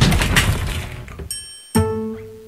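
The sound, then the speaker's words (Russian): A jumble of objects (books, a football, crumpled drawings, old notebooks, a badminton racket, a T-shirt and a shovel) tumbles out of a wardrobe in a noisy, clattering crash lasting about a second, followed by a faint ringing and then a loud metallic clang that hums on with a sustained tone. “Из шкафа выпали книги, футбольный мяч, смятые листы с рисунками, старые тетрадки, бадминтонная ракетка, скомканная футболка и даже лопата.”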